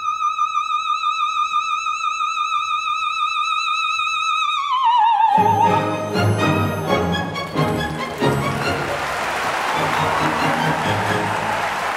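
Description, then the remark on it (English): A soprano singing the role of Olympia holds a high sustained note with vibrato that fades, and a large audience immediately bursts into loud, dense applause for her that continues steadily for several seconds. “You know, an Olympia is just standing there receiving this applause and not really able to react to it in a way that's human, which is kind of hard because I just want to break free of the robot and go, thank you, thank you, thank you.”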